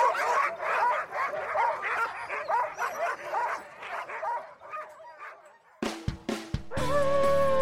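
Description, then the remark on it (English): A dense chorus of dozens of huskies barking, yipping and whining all at once, ready to run in a dryland race at a dog mushers' association in Chugiak, Alaska; a loud overlapping clamor for about six seconds before it cuts off abruptly into a different tonal sound. “Hear that sound? That is dozens of huskies ready to run in this year's Dryland Race Series presented by Alaska Dog Works at the Chugiak Dog Mushers Association in Chugiak, Alaska.”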